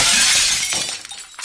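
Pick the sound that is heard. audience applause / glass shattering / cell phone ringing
glass shattering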